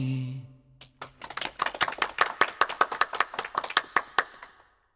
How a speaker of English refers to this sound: Everyone applauded when the song was finished.